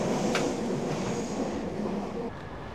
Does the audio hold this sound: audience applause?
no